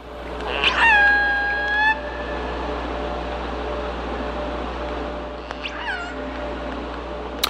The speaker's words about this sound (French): Et des vocalises d'orques, voilà, vous les entendez, elles sont au milieu des moteurs de paquebots dans les eaux du port de Vancouver, en l'occurrence, pour illustrer ce sujet encore mal connu du bruit sous-marin.